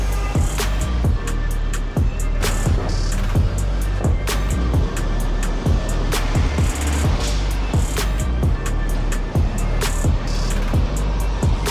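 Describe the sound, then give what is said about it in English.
A loud, busy bus terminal ambience with a steady low engine rumble, passing vehicle traffic and frequent sharp clicks and knocks scattered throughout, with no clear voices. “So here we are at the bus terminal, and the cheapest way to get here is to take a bus, and you can get a bus from the northern border or the southern border.”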